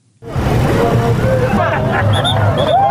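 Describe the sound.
Busy morning traffic at the 7 days roundabout in Juba, South Sudan, as a traffic officer directs the vehicle flow: steady engine rumble and idling vehicles blend with a background hubbub of indistinct voices, with a few faint high-pitched tones cutting through near the end.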